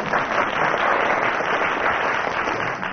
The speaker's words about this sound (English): I think that's worth a round of applause.